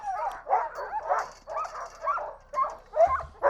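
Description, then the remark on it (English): A pack of excited distance racing sled dogs from Mackey's line barks, yips and whines continuously as they are loaded up for dog mushing, overlapping calls in a dense, noisy chorus, with high-pitched whimpers rising between the barks. “So this is dog mushing. It's best. Noisy. You can load up. The dogs are super excited.”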